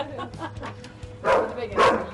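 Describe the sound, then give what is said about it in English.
A dog at a house barks twice in quick succession, loud, after a few softer yips at the start; no one speaks. “Oh, this dog doesn't attack me.”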